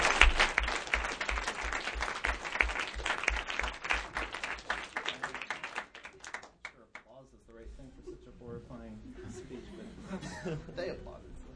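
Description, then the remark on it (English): Audience applause after a speech, a dense crackle of many hands clapping with some chuckles, fades after about six seconds as a man's voice begins speaking. “And as you might imagine, we were a little surprised when they applauded.”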